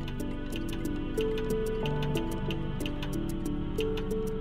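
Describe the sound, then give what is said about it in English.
A mechanical clock ticks in a steady, even rhythm of sharp little clicks, sitting over a continuous backdrop of sustained melodic tones. No one speaks. “Now, we know that most mechanical clocks tick, right? There's a tick and there's a tock.”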